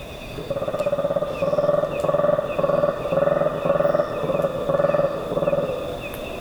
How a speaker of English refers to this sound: The troops' vocalizations echo across the jungle canopy as they regroup and start their search for breakfast. These contact calls were recorded by Douglas Quinn.